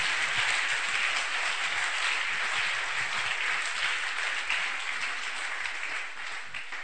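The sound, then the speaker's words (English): A crowd claps hands steadily, a dense, continuous wash of many overlapping claps that stays loud for about six seconds before easing slightly at the end. No voices stand out. “Somebody clap those hands.”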